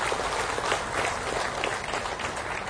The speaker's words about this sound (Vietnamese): Xin quý vị trên một tràng vỗ tay thật lớn.